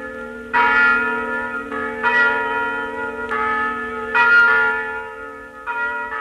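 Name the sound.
church bells pealing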